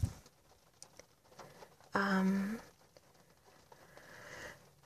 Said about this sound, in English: I'm listening to the rain.